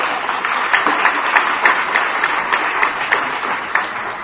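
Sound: audience applause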